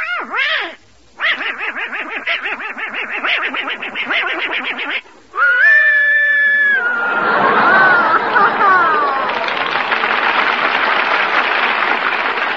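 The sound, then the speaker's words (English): A little boy imitates a choo-choo train: a quick rising whoop, a long run of rapid rhythmic chugging, a sustained whistle-like toot, then a loud breathy hiss like escaping steam. “My darling, that's the best imitation I ever heard.”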